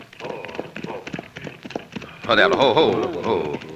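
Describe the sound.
Hooves clop in a quick, uneven rhythm as horses move off, then a loud voice shouts over the fading hoofbeats.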